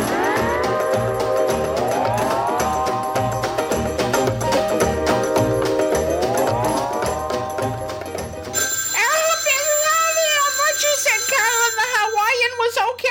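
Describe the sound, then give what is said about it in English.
A telephone, called the death phone, rings with a loud, repeating electronic pattern of rising tones for several seconds, then the sound changes abruptly to a wavering, warbling tone. “Well, why is the death phone ringing?”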